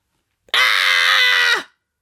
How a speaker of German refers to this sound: Ein grauenvoller Schrei gellt durch die Wohnung. Ich zucke so heftig zusammen, als hätte ich in ein Stromkabel gebissen.